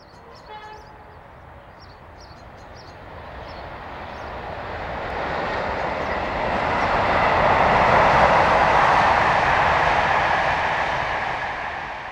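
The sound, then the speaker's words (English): A train carrying letters to different towns rumbles along the rails, its broad roar swelling as it approaches and peaking before easing slightly, with faint tonal whistle-like notes at the start. No one speaks. “The letters go to the different towns by train.”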